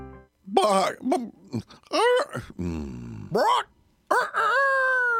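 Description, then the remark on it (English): A rooster crows in a string of loud, warbling bursts whose pitch swoops up and down, almost voice-like, ending in one long, drawn-out cry. No one speaks. “That's one talented rooster.”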